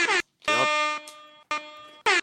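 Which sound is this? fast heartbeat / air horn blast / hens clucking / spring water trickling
air horn blast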